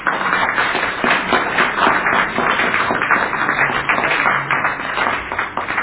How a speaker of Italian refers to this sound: le salutiamo con un applauso, grazie.